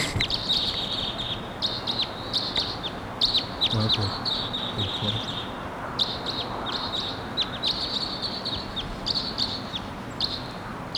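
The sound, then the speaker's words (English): A wild crossbill, coming in at 7:03, gives repeated sharp, high chipping calls in quick bursts throughout, clear over a steady low rumble of outdoor background noise. “Wild Cross Bill coming in at 7:03.”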